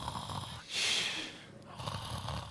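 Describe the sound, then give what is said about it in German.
A person imitates snoring with one drawn-out, raspy snore, then a breathy exhale, with no other voices. “dieser Pastor, dem ist das auch passiert, der hat also hat gepredigt und da ist jemand eingeschlafen und hat angefangen zu schnarchen.”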